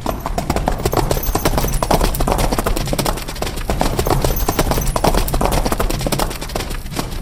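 Horse hooves clip-clop in a fast, dense patter, as if several horses are trotting together, steady and fairly loud for the whole stretch with no voices.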